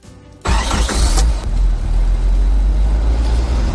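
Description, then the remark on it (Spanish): A car engine cranks and catches after a brief quiet moment, roaring up loudly, then settling into a steady, rumbling idle with a deep low hum as the car is started. “Este proceso se repite miles de veces cuando encendemos el coche.”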